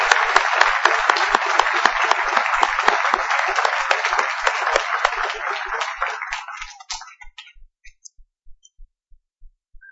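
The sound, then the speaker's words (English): A crowd applauds the audience at Vandalia steadily for about seven seconds before the clapping thins and dies out, leaving only a faint, regular low thumping that continues to the end. “Would you join me, please, in applauding the congregation here at Vandalia?”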